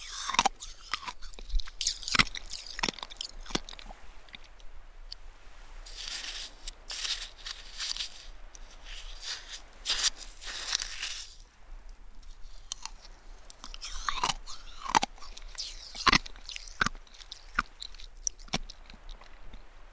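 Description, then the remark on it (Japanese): Crunchy shaved ice with sweet syrup being eaten, with repeated crisp, bright crunches and chewing bites in irregular bursts over twenty seconds, no talking. “かき氷がシャクシャクで、シロップが甘くて。”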